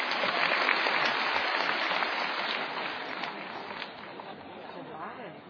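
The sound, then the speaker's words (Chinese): A crowd applauds a xiangsheng (crosstalk) comedy performance, many hands clapping in a dense, continuous wash of sound that stays fairly loud and gradually eases off over several seconds. “谢谢大家掌声鼓励 啊。”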